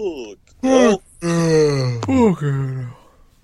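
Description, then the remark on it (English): A person imitates Eeyore, the gloomy donkey, with a fairly loud vocal groan: a short moaning burst, then a long, sagging, mournful drawl that trails off into quiet. “Was that Eeyore?”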